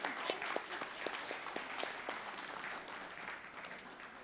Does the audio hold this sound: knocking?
no